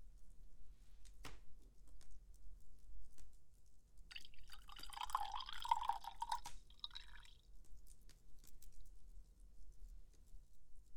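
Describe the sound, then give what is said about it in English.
Wine glugs and splashes into a glass for about three seconds, a soft pour standing alone against a faint low hum. “Pour me another glass, would you?”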